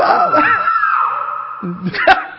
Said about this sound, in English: That was my scream when she knocked on my door.